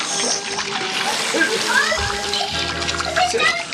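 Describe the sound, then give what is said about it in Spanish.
Loud, continuous churning and splashing water, sloshing and bubbling as a helicopter sinks into the sea amid whirlpools and foam, with a steady foamy rush throughout. “A salvo y desde una distancia prudente, Calimán y sus compañeros dejan de remar y vuelven la mirada para contemplar cómo el helicóptero se hunde en medio de remolinos y espuma.”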